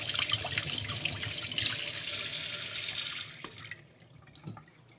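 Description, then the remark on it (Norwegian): Something being rinsed under a running tap: a steady, bright hiss of flowing water with splashy variation, which cuts off after about three seconds, leaving a few faint drips and clinks. “Nå skyller jeg.”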